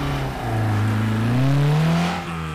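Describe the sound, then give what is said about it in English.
A tilting car's engine revs steadily, its pitch climbing and sweeping upward as it accelerates, loud throughout, then easing slightly near the end with no voices present. “Yes, much more fun than a normal car. It felt faster, too.”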